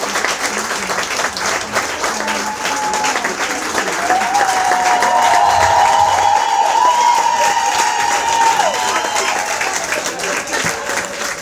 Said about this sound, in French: On applaudit, s'il vous plaît.